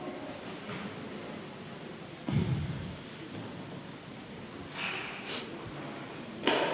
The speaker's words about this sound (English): Would you like to grab yourselves a Bible, please? Everybody needs a Bible. Underneath the chairs in front of you. Somewhere around about you, you'll find a Bible.